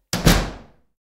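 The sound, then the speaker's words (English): A door that had been left open swings shut with a firm thud, a quick double impact as it meets the frame, then a short fading rumble. No voices, just the single closing. “Oh, someone's left that door open. I'd better close it.”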